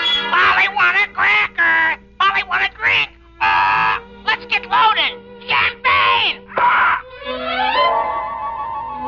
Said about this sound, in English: Ladies and gentlemen, you have just met Caesar the Parrot, a sort of feathered candidate for Alcoholics Anonymous.